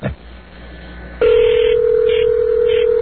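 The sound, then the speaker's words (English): A telephone call being placed to a Checkers fast food restaurant: a short quiet stretch, then a steady electronic phone-line tone comes in loudly and holds, as if through the receiver. No one speaks. “We're calling various fast food restaurants across America.”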